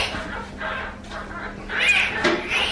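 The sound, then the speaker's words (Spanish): Two newborn giant panda cubs at the Zoo Aquarium in Madrid grunt and squeal during their first veterinary check-up, in a string of short, clucking bursts that grow a little louder toward the end, with a faint steady hum underneath and no talking. “Y a pesar de sus gruñidos, los cachorros están muy bien.”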